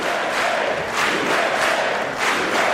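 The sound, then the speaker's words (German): The assembled Congress, Democrats and Republicans, cheers and shouts loudly and continuously for Donald Trump, a dense roar of many voices swelling in waves with no pause; Democratic women, all dressed in white, cheer especially enthusiastically. “vor ihm jubelt der versammelte Kongress.”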